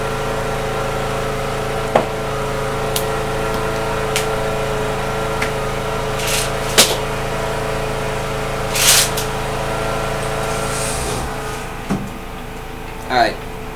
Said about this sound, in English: Lawnmower is just sitting there running while the guy walks around.